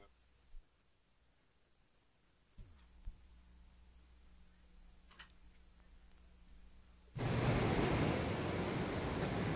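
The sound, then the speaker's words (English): A quiet city street corner with a low hum and a few faint ticks, a steady engine drone rising in the middle, then a loud rushing roar of passing traffic filling the final seconds. “Yeah, this is only a minute of traffic.”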